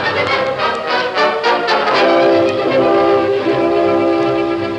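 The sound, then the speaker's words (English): A freight train rolls slowly around the base of Bluebell Mountain in bitterly cold, snowy weather, with a rumbling, clattering undertone while a loud, sustained multi-tone whistle blares over it, the sound easing off slightly toward the end as it moves out of sight. No one speaks. “As the train circled the base of Bluebell Mountain, moved slowly out of sight, two horsemen rode down out of the trail.”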